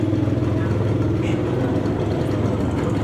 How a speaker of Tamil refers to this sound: ஜகார்த்தாவில் இருக்கின்ற ஒரு குடிசை பகுதி சாக்குகளாலும் தகரத்தாலுமான சிறிய குடிசைகளே இங்கு காணப்படுகின்றன. இருக்கின்ற ஒரு சிறிய தெருவில் மோட்டார் சைக்கிள்கள் போய்கொண்டிருக்கின்றன.